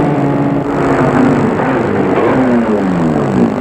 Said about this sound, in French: La voiture longe une longue allée boisée et arrive devant le perron de la maison.